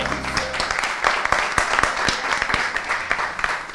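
An audience applauds steadily, a dense wash of many hands clapping with a few sharper individual claps standing out, holding a fairly even loudness throughout.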